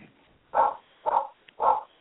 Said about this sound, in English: Somebody's dog is there. Somebody's at the door, and they're like, that's my puppy. That sounds like my house.